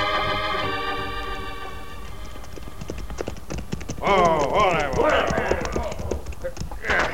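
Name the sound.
horse hooves clip-clopping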